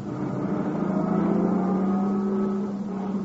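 A car engine idles and rumbles steadily, its low hum holding a slightly rising pitch as the car pulls up a short way in front of a cabin before easing to a stop.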